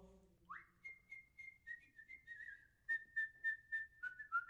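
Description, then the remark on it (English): A person whistles the Sigurd fraternity call: a quick rising swoop into a long sustained tone, then a series of rhythmic, clipped pulses on the same pitch. Clear, with no talking. “The whistle that is known by every member, and means so much to one and all.”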